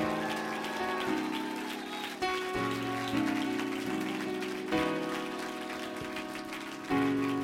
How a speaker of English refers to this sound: Praise God. Praise God. Well, clap your hands and shout a little bit.